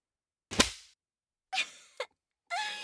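Four sharp whip strikes land on a person's skin, which is reddening where it is hit, each a crisp smack that fades quickly, spaced about half a second to a second apart with silence between and no talking.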